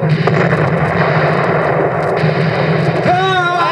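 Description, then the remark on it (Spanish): A dense, loud barrage of cannon fire from an American frigate battling a British warship at sea southeast of Boston rumbles continuously, booms blurring into a heavy roar, with a brief shouted voice rising near the end. “¡Los alcanzamos con nuestros disparos!”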